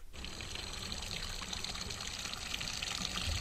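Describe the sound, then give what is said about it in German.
Water pours steadily from a fountain in front of Schloss Angenstein, a continuous splashing rush that stays fairly loud throughout, with no voices. “Der Werner Moser erwartet mich am Brunnen vor dem Schloss Angenstein.”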